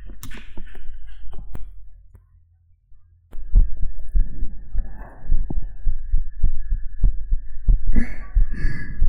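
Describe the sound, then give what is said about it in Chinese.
A fast, muffled heartbeat thumps steadily and quickly, heard with an ear pressed against a person's chest, with a low hum and soft rustling; it drops out briefly, then returns. “我的心跳声很快吗？”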